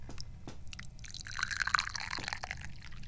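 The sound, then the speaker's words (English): Jinjin Mei tea pours into a cup in an entertainment room in a steady trickle with a rising liquid tone, accompanied by light clinks and drips over a low background rumble, with no one speaking. “Okay, As I'm sitting down here, okay, let's pour tea.”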